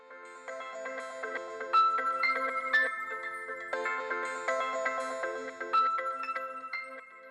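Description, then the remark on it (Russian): A mobile phone rings just after being switched on, with a bright, electronic melodic ringtone, its tune of quick, chiming notes repeating steadily for several seconds, fairly loud, with no voices. “Бросив взгляд на часы, поняла, что пора возвращаться во внешний мир, и включила мобильник, который немедленно взорвался звонком.”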